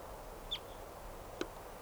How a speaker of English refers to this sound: The trees are full of crossbills now. There's about 20 birds around here all together. And they all sound like type 2s.